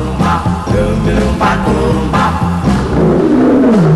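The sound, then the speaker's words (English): A lion roars loudly, a deep rumbling growl swelling in a few heavy bursts and ending in a long, sliding low roar. “The lion ain't asleep, and it's me he wants to eat.”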